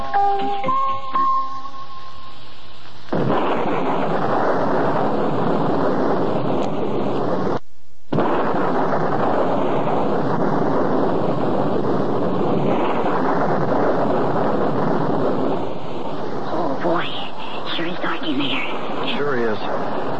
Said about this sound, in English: And I also can't see why Mrs. Saxbull would tell us to come out here in this storm if she wasn't going to be home.